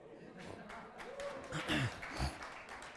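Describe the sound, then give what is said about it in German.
An audience claps steadily in a dense, crackling wash of applause, with a few voices calling out over it and the clapping swelling slightly toward the middle. “Danke, für jedes Klatschen könnt ihr noch etwas spenden.”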